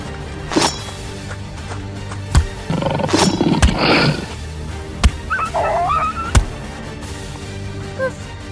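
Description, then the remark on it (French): A wolf, still standing after being hit by an arrow, charges and snarls and roars in a harsh, growling burst midway through a fight, surrounded by several sharp, punchy hits like blows landing, with a brief squeal near the end. “Avec une flèche, ce loup est encore debout. Quel enfoiré! C'est malin de l'avoir énervé. Il nous fonce dessus maintenant.”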